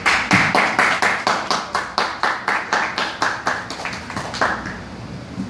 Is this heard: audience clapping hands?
yes